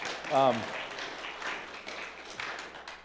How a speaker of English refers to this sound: You're allowed to clap, you know. That's cool.